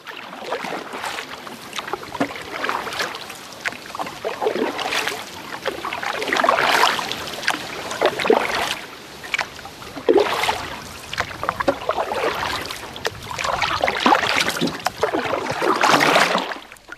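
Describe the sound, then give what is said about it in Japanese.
A canoe paddle dips and pulls through water in a steady rhythm, each stroke a swishing splash repeating every couple of seconds, with no one talking. “はい、お聞きいただいておりますのはカヌーの音なんですけどね、実際こう歩くコースでなんで水の音を出すのよというふうに思ったかもしれませんけれども、このコースがですね、実はスタート地点がですね、スタッドリーパークのボートハウスなんですね。”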